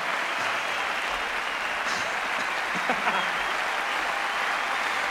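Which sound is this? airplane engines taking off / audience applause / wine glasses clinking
audience applause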